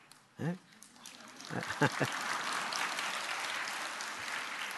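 A crowd breaks into steady applause that swells after a couple of brief vocal bursts, then keeps going as a dense, even wash of clapping until the end.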